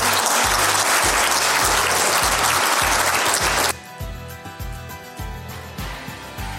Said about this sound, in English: Thank you so much. Let's give her a huge round of applause.